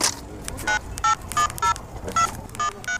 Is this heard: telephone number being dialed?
yes